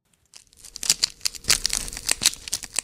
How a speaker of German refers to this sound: Hören Sie es knistern? Das ist Zellophan. Man kennt es von diesen kleinen, transparenten Geschenk- und Gebäcktütchen.